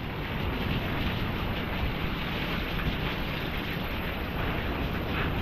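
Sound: heavy rain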